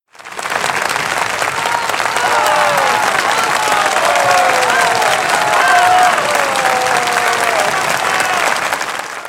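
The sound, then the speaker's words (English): Sustained applause from train passengers and the train driver, steady and fairly loud throughout, with faint cheerful voices and whistle-like tones rising above the clapping. “That applause is for us.”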